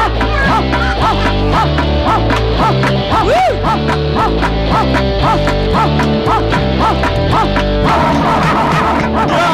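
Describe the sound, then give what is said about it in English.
A dog barks and yips over and over in a quick, steady rhythm, loud, over a dense, droning musical backdrop that shifts near the end. “Who's that barking?”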